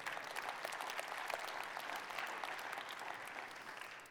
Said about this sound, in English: That's a halfway applause.